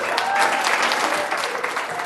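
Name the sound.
applause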